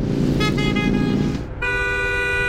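car horn honking

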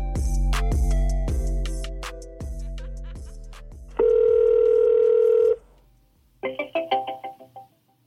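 telephone dial tone

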